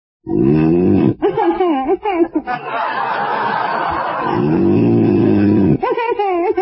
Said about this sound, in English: …! You said you wouldn't snore.